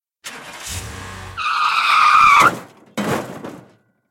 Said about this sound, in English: The other thing I remember about this is you found some, while we were in San Diego, some really great car crash sounds. Yeah. Here we go.